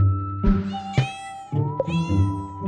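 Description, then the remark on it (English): A kitten, about a year old, meows twice in a row, fairly loud, each call drawn out and whiny with a bright, slightly strained tone. No one speaks. “So I had two kittens.”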